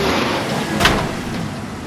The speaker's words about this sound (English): On the studio lot, two men pull up in a vintage convertible muscle car, the driver wearing a paper bag mask. The car slams into the wall as he parks.